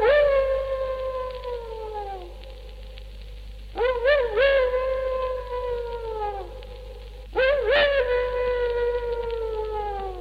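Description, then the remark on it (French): A dog howls far off in the countryside on a summer night, in long, mournful wails, three drawn-out calls that rise and then slowly fall, heard alone over a low steady hum with no one speaking. “J'entendais même, par une nuit d'été assez semblable à celle-ci, un chien au loin dans la campagne qui, à sa façon, faisait lui aussi sa prière.”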